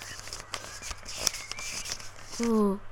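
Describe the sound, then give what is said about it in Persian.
Crisp rustling and crinkling of paper as a magazine page is flipped over while looking through its pictures, with a few sharp crackles, followed by a brief voice sound near the end. “ورق بزن، شاید عکسای تب دلت پیدا کنی.”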